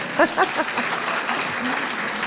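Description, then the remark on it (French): An audience in a room of 550 people claps for a woman among them in a dense, steady patter that carries on for a couple of seconds, with a couple of brief voices rising over the applause near the start. “Et madame, alors on peut l'applaudir aussi.”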